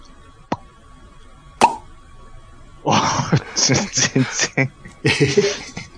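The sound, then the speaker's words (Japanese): Two crisp pops made with the mouth, imitating a carbonated drink bottle being opened, spaced about a second apart, followed by lively talk and laughter. “ちょっと兄さん、今のポーンって、ちょっとリピートアフターミーしてもらっていいですか？”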